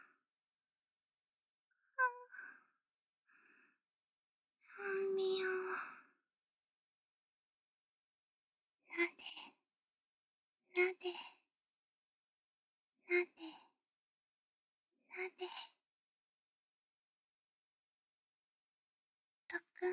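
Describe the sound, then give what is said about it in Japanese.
A long voiced sigh, then four short, airy breaths at an even pace of roughly two seconds apart, the breathing calming down, with silence between them and no talking. “息遣いも落ち着いてきた。”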